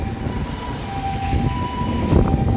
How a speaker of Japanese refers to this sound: 救急車だ。ドップラー効果を体験しよう。